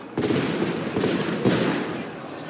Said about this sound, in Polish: O, nawet słuchaj, że ślepakami strzelają, żeby to rozgonić, mi staje ten tłum.